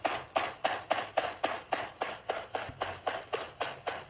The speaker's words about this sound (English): That's a gunshots. Big clip. Is it really? Yeah, somebody just unloaded.